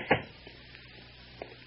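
door being closed

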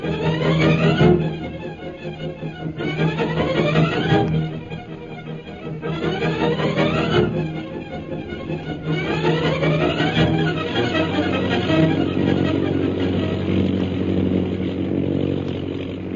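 airplane engine in flight

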